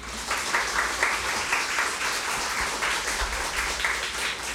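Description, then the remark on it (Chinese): A church audience at a morning service applauds steadily for several seconds to encourage the preacher, a dense, even wash of many hands clapping at once with no voices rising above it. “弟兄姊妹早晨，可唔可以俾肖长声鼓励下我？”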